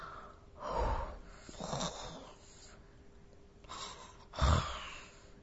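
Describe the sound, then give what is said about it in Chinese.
A girl fakes snoring: several exaggerated, rasping snore-like breaths with short pauses between them, the last one the loudest. No one speaks. “假装打起了呼噜”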